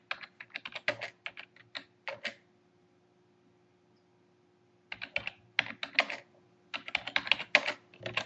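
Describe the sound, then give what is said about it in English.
Rapid clicking keystrokes on a computer keyboard as someone types mail, in two quick bursts separated by a few seconds of near silence, moderately loud, with no talking. “Doing that mail thing again, typing and trying to talk at the same time, and it just doesn't work.”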